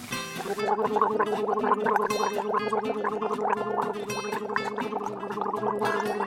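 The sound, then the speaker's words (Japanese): Cola poured into a glass: a short fizzy hiss opens, then a steady bubbly gurgling glug runs on for several seconds, fairly loud, with no voices. “コーラなんかついでる場合じゃないでしょ。”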